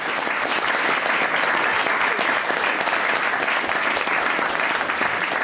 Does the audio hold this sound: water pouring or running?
no